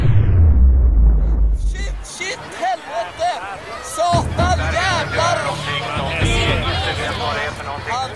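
A heavy, rumbling explosion from a JAS fighter plane above a crowd of thousands booms at the start and fades after a couple of seconds. It gives way to the large crowd gasping, shouting and screaming in alarm.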